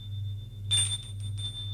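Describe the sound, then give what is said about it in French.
A doorbell rings with a thin, high electronic tone that swells into a brighter, buzzy burst partway through, then rings on in short pulses over a steady low hum. No one speaks. “Au bout de quelques minutes, on sonne à la porte.”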